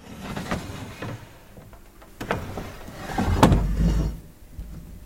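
A large, flat specimen drawer in a big shelf holding several hundred pinned grasshoppers slides open with a low rumbling scrape, punctuated by a few sharp clicks and knocks, with no one speaking.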